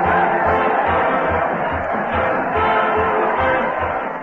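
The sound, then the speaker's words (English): A dense, steady roar of a cheering crowd as a big parade marches to the old Town Hall, with a low, regular drumbeat thumping about twice a second underneath, like a marching band passing by. “Listen to that crowd. They're cheering as the big parade marches to the old Town Hall with Fred Allen delivering punchlines to the crowd and the crowd delivering punches to the Mighty Allen Art Player.”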